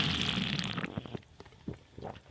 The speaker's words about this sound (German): Ja, dann mache ich jetzt aber schön zur Feier des Tages das übliche Air-Up-Geräusch.